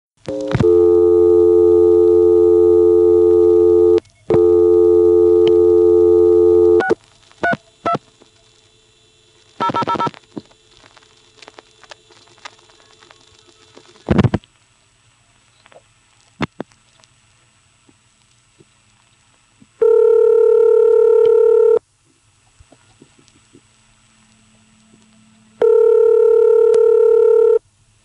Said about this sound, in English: So here's a call from this NX1D to an NX1E in Hanover. The office code is 632.